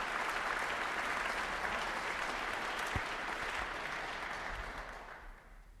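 A large audience at the National Concert Hall applauds steadily for Alan Smale, leader of the RTE National Symphony Orchestra, many hands clapping in a dense, even wash that holds its level for several seconds before thinning and fading at the end. No voices are heard.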